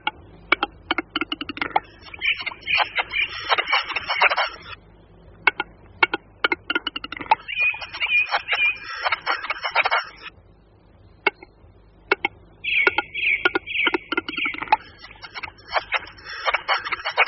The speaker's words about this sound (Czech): Také nahrávka, kterou posloucháme, pochází z některé z horských lokalit, o čem svědčí zpěv kosa horského, který slyšíme na pozadí tetřevý písničky.